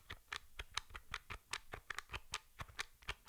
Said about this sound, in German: Die Tastatur ist auch sehr leise. Ich tippe jetzt hier mal bei ausgeschaltetem Gerät und halte das mal relativ nah ans Mikrofon.